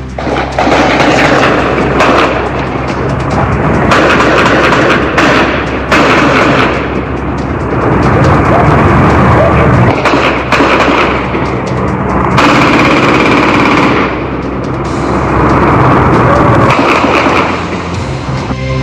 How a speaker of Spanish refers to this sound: Creo que escuchemos parte del ambiente grabado por los propios vecinos en torno a esta balacera registrada anoche en la comuna de Maipú.